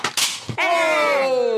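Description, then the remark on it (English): A Christmas cracker pulled apart with a sharp crackling snap in quick bursts, followed straight away by a long, falling vocal exclamation. “Do you like me to pull your cracker?”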